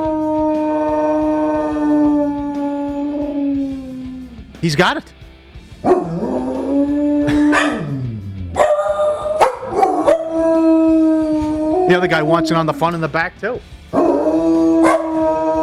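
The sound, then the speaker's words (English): A dog howls in long, wavering, sustained tones, rising and falling in pitch, imitating the wailing fire truck sirens it sees and hears, loud, while people talk briefly over it. “He sees the fire trucks and he hears them and he imitates them.”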